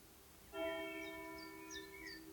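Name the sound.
church bell ringing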